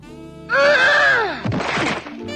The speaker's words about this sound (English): Charlie slips his letter through the mail slot, and his hand gets stuck. He struggles and crashes into the door, throwing it open.